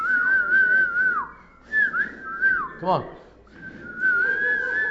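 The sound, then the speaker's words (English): Several people at a church worship gathering whistle together in a steady, sustained tone that wavers and slides, pausing briefly before resuming, with room noise and a short spoken remark mixed in. “can you all whistle?”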